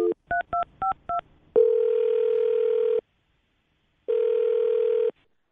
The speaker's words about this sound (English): All right, here we go. I'm going to dial the phone number.